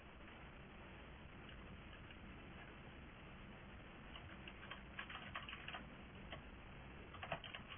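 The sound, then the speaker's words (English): Soft computer keyboard typing as someone types square brackets after item one of a list: scattered key clicks pick up into quick irregular bursts in the second half, set against a steady low background hiss with no voices. “Not that I can see where I'm typing, which is really annoying.”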